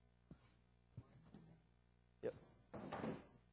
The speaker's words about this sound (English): Let me pull this chair over here.